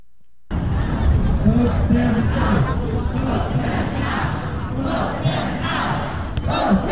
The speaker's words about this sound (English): The crowd is yelling, "Throw him out!